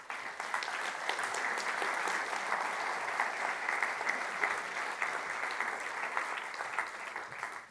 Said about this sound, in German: Und die Herausforderung, vor deren Herausforderung steht sie, wir werden sie mit einem herzlichen Applaus auf der Bühne begrüßen.